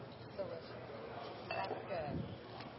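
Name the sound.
glasses clinking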